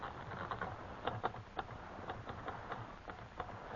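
Typing on a typewriter: a steady run of sharp mechanical key strikes, slightly uneven in rhythm, fairly quiet against a low background hiss, with no voices.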